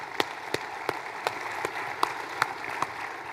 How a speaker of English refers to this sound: Let's give him a round of applause, everybody.